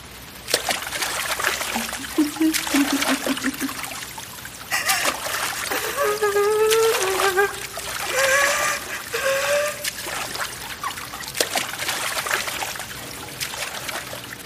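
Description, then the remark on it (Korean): Water splashes repeatedly, like someone swimming through water in a swimming pool that has no water, in the rain, in loud irregular bursts, while eerie wordless moaning tones, like sobbing or speech, rise and fall over them. “물 없는 수영장에서 물살을 가르는 소리.”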